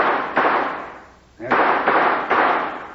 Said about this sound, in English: Not much shouting into this wind for Pete. He might hear gunshots and recognize the signals. I'll try a few shots into the air.